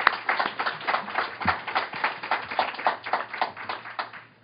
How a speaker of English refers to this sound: So this is our panel, folks. And we're very excited to have them join us. So let's give them a round of applause before they get started.